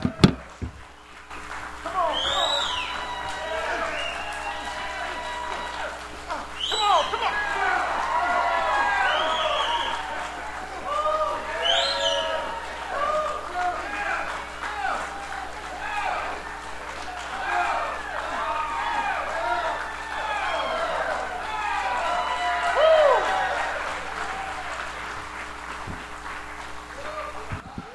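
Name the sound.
crowd cheering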